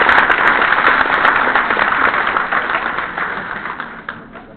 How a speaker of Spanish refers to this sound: Estimados maestros, recibámoslo con fuertes aplausos